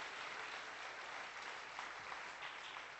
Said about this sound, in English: Ladies and gentlemen, if that message, give God the glory. Give God the hand clap. Give God the praise.